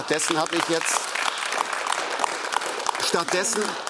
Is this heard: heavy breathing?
no